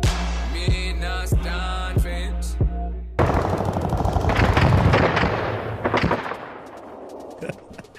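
gunshot sound effects

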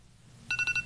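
timer going off

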